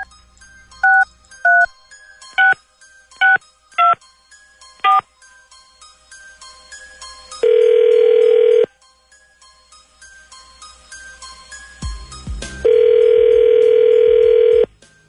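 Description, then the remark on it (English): A phone is dialed with six quick, beeping keypad tones, followed by two long, steady ringing tones on the line separated by a pause, with no one speaking. “Once the phone starts ringing, though, if you can put”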